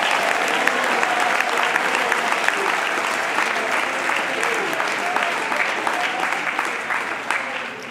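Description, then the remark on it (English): A crowd claps steadily for several seconds, a dense wash of many hands at moderate loudness with no voices rising above it, fading slightly toward the end. “Is there anybody that could clap their hands and say, hey, it's time for Thanksgiving?”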